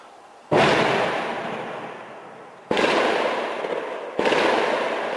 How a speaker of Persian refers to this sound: ساعت 4:30 صبح روز چهارشنبه تیراندازی پیاپی و صدای انفجار خواب را از چشم ساکنان حومه شمالی پاریس رو بود. نیروهای واحد ضد تروریسم و پلیس فرانسه در جستجوی افرادی مرتبط با حملات جمعه شب پاریس، آپارتمانی در منطقه سن دونی در شمال پاریس را محاصره کردند